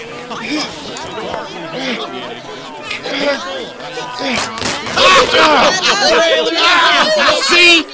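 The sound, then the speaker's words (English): Dense crowd chatter fills the scene, many overlapping voices murmuring and calling out at once, growing louder and more agitated toward the end with sharp bursts of raised voices. “The crowd is getting restless, and the police are on their way to charge you with public indecency.”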